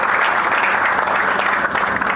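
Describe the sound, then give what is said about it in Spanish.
An audience at an awards ceremony applauds steadily, a dense, continuous crackle of many hands clapping at an even loudness throughout, with no voices standing out, for the two prizes won by Ruta Alquímica. “Muy bien, un aplauso entonces para los dos premios que se llevan Ruta Alquímica a los 10 de esta tarde que nos quedan.”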